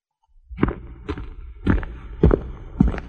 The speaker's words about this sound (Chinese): 树听见摩斯叔叔的脚步声